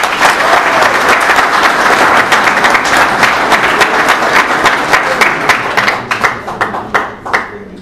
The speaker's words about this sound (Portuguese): Uma salva de palmas.